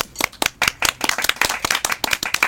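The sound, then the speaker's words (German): An audience claps in a dense, steady patter of overlapping hand claps, bright and crisp, with no voices over the applause. “Dafür bitte nochmal 1912 Applaus.”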